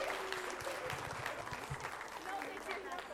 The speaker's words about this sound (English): Now you know why this is the best part of our school board meeting. Let's give them one more big round of applause.